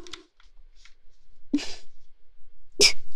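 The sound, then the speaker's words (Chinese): Two short, muffled bursts of breath, the second sharper and louder, like a sneeze being stifled by a man trying hard not to sneeze despite a strong itch, each preceded by a brief hitch, with a few faint rustles in between. “真的好痒，好痒，快忍不住了。不行，不能打喷嚏，再怎么男人也得忍住啊。”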